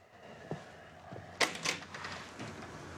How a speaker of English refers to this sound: He opens the door